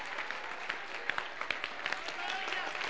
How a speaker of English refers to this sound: Let's try to obey the Bible. Clap your hands, oh ye people.